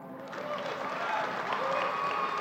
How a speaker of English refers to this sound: Everyone applauds.